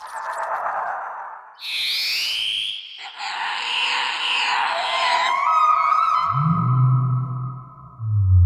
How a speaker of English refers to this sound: Spooky forest birds.